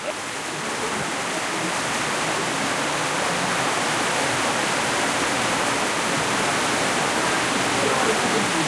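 Heavy rain pours onto the sheet-metal roof of a small tin shack in a dense, unbroken roar, a loud echoing hiss that holds steady and slowly thickens from start to finish without any pause.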